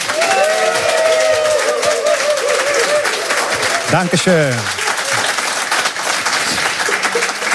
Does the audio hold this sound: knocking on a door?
no